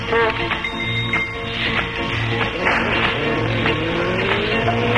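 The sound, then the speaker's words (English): A racing car engine roars loudly and continuously, its pitch rising and falling as the tyres squeal through hard skids. “Get that car out of here, will you?”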